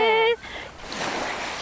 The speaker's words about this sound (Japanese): いい音、 ずっと聞いてても飽きないです ね。 というわけで、波の音をいつまでも聞いていたいところですが、白良浜をスタート。